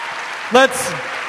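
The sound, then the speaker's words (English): Steady applause from an audience throughout, a dense wash of clapping with a brief loud whoop from someone partway through. “Huge round of applause.”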